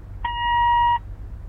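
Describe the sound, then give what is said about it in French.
A single steady electronic beep lasting under a second, clear, the tone on a voicemail greeting that signals the start of a recording, after which the caller has two minutes to leave a message, with faint low background hum around it. “Vous avez 2 minutes pour parler, après le bip sonore.”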